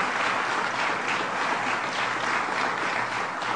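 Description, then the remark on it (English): Steady applause from an audience thanking Journey Gunderson and Tom Benson for their gift, a dense wash of many hands clapping at an even, sustained loudness for a few seconds with no voices on top. “Let's give them a round of applause for their good work.”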